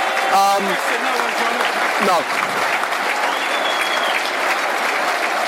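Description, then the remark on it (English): A football crowd applauds steadily, a dense wash of clapping throughout, with scattered shouts and a brief spoken word rising above it early on, applauding the players off the pitch after a match between Millwall and Brighton that finished 5-4 to Brighton on penalties. “The crowd rightly applaud the players off the pitch.”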